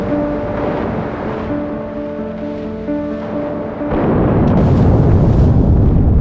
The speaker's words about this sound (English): HMS Petard and three other warships are on the scene by 10 a.m. and spend the next 10 hours hunting and depth charging the U-boat.